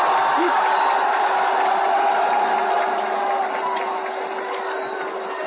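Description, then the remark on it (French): A dense, steady roar of street traffic on the Champs-Élysées in Paris with a continuous engine hum, cars crowding past, while indistinct voices murmur underneath throughout. “Les MP et les agents font ce qu'ils peuvent pour endiguer le flot des voitures.”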